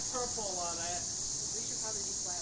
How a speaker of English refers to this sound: How about those cicadas?